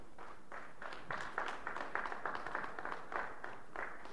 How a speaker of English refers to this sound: Come on, stand to your feet and give the Lord a hand clap of praise.